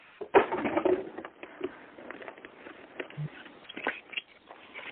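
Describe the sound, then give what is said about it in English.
A deck of cards being shuffled for a caller's birthday reading: a dense burst of rapid, papery flicking and clicking at the start, then scattered softer taps and riffles, fairly quiet, with no voices. “I am shuffling. I want to get a good one for your birthday.”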